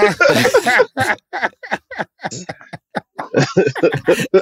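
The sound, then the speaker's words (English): A rough coughing fit: a long, raspy burst followed by a rapid string of short, uneven hacks and throat-clearing sounds, with brief gasps between them. “I think I'm gonna cough in my dreams.”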